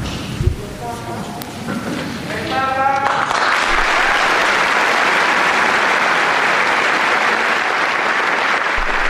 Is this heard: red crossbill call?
no